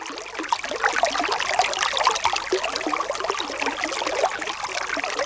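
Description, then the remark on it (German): Water spurts out of a rock struck with a staff and trickles steadily, a continuous bright spattering that stays fairly loud throughout, with no voices. “Wasser spritzt heraus.”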